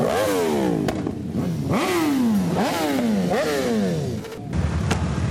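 Motorcycle engines rev repeatedly at a crowded motorcycle blessing in Mirna Peč with about 13,000 motorcycles, several loud rising and falling whines overlapping over a constant rumble of other bikes. No one speaks.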